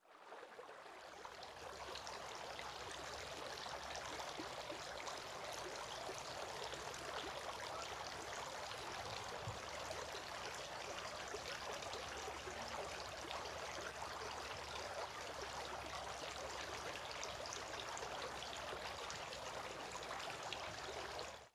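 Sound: water trickling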